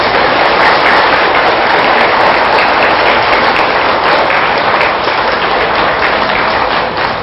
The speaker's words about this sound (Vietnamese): Nếu làm được việc đó thì quý vị hãy cam kết bằng một tràng vỗ tay thật lớn.